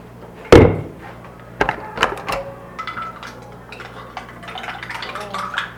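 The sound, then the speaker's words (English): A spoon stirs water in a glass with dirt at the bottom: a sharp knock on the glass, then a few bright clinks and light scraping taps spread irregularly over several seconds. “Because all it takes is a little stirring of that sin and you're dirty again.”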